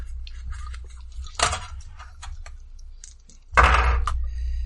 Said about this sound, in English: I am going to roll some dice. And through that medium... make a decision on to whether I've heard of Old Meg Horner.